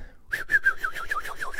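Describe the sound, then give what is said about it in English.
A person makes a breathy, wavering whistle-like tone by drawing air in, imitating the way French people breathe in, about a second long, with a fluttering, pulsing texture and no talking. “Like a whistle?”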